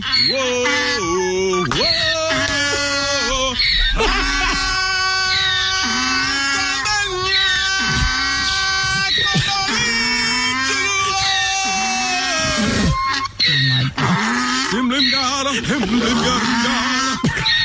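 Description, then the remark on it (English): A donkey in a field in South Carolina brays loudly and almost continuously, its rasping, wavering cries rising and falling over a man singing, with barely a pause across the whole stretch. “So it's really just the donkey.”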